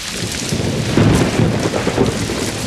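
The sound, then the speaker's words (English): Steady rain hisses while deep thunder rumbles underneath, a loud, continuous wash of storm noise with no voices; the rain falls behind and ahead but not on the listeners. “The rain's back. But notice, it's not raining on us. It's raining behind and ahead, but not on us.”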